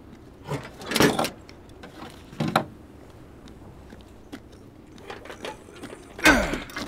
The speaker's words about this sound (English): There's a shipping door over here. Might be able to drive in after all. Does it open? It will. Just give me a second.